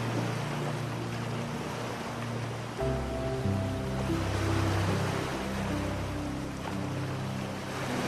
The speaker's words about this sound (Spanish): Y cuando estés preparado o preparada, déjate llevar con el sonido de las olas hacia un sueño reparador y profundo.